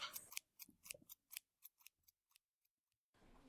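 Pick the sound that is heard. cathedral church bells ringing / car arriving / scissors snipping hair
scissors snipping hair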